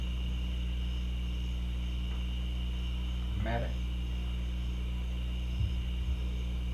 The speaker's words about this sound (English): Is that this? No. No, there's an air conditioner out there.